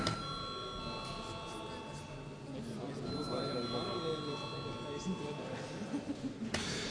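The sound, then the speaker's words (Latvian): A Saeima voting bell rings in a steady, sustained electronic tone for several seconds, calling a vote on sending a draft amendment to the aviation law to a committee, holding an even pitch over a low murmur of people talking. “Lūdzu zvanu.”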